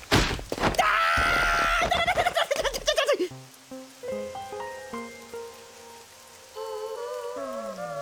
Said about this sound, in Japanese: 梅雨とはいえ、ほんと雨ばっかだな。洗濯も乾かねえし、布団も干したいって。ああ、雨早く止まねえかな。